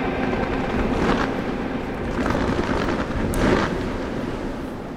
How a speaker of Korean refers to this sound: 이제 카운트다운이 완료됐죠? 맞춰졌고요. 네, 불꽃놀이와 함께 도쿄올림픽 개회식이 시작됐습니다. 네, 5년을 기다린 불꽃입니다.